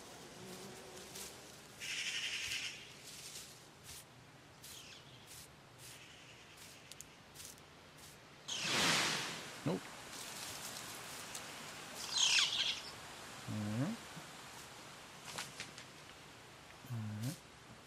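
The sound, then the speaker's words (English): A magpie in a forest gives harsh, rasping chatter in a few separate bursts, one louder and broader than the rest, against a quiet outdoor background with brief low murmurs. “She's not as angry as she sounds. Magpie and her family have lived in this forest since I was little.”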